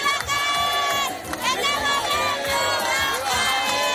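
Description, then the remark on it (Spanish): A large crowd of protesters in Venezuela, out at night and closing streets, shouts slogans against Maduro together, a loud, dense wall of many voices that rises and falls in waves throughout, with shrill cries standing out above the chanting. “En un recorrido nocturno hemos constatado cómo estas manifestaciones cierran calles y gritan consignas contra Maduro, incluso en sectores populares que tradicionalmente han sido bastiones del oficialismo.”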